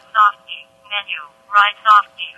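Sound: phone keypad beeps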